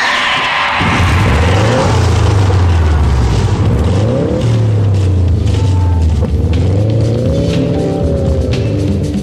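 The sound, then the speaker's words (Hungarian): A car engine fires up after a brief pause and revs loudly several times, its pitch sweeping up and falling back, with no voices. “Ladies and gentlemen! Start your engine!”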